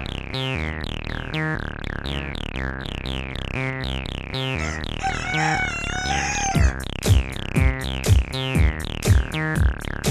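Chickens cluck in a quick, steady rhythm, broken midway by a drawn-out rooster crow, followed by a run of louder, punchy clucks near the end; no voices.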